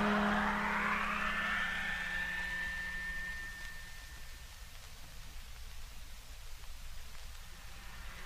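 A truck motor whines up to speed, its pitch climbing and then holding steady before easing into a continuous rumbling drive with a hissy, noisy wash, and no voices.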